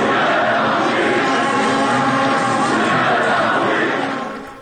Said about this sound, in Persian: بله، تشویق تماشاگران بازی استقلال و نفت رو شنیدیم. نفته. که استقلال و نفت بود، درسته؟ بله، نفت مسجد سلیمان. نفت مسجد سلیمان که بوریا غفوری رو یک صدا تشویق میکردن.